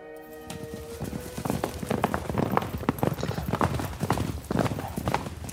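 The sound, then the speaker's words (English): Bogus and Elk's horses, slowed to a walk to rest them, move along at an unhurried pace, their hooves clip-clopping in a steady, overlapping rhythm that stays fairly loud after a brief tonal sound at the start. “More than half a day's journey ahead of the Lone Ranger and Tonto, Bogus and Elk slow their horses to a walk to rest the animals.”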